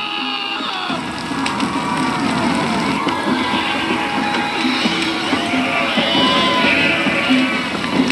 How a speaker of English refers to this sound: Yeah, it's creepier when they're singing. When they're cheering, it's just kind of stupid.